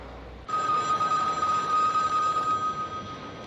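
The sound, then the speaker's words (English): Telephones ringing: a steady, high electronic ring starts abruptly after a moment of quiet and holds without pause to the end, over a bed of hiss. No voices. “Let them ring.”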